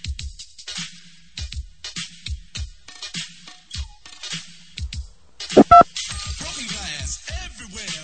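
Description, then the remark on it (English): A quick burst of two or three loud phone keypad tones, beeping between stretches of talking voices. “Please enter the number you wish to call.”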